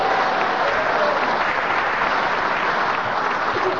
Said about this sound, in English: Yeah, a round of applause for Colin.